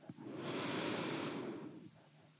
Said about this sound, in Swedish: Och så kan du ta ett djupt andetag in.